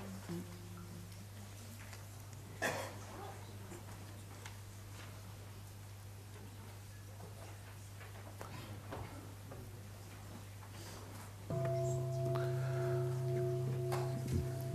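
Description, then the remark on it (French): A gong is struck once, a small strike before a Buddhist refuge recitation, and rings out with a steady, sustained metallic tone that carries to the end, over a constant low hum. A single sharp knock sounds earlier. No one speaks. “Un petit coup de gong pour.”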